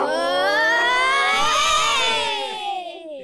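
A crowd of children doing a Mexican wave (Laola-Welle) together lets out a long, sustained high-pitched cheer that swells and holds loudly for about three seconds, then trails off with a few voices fading at the end.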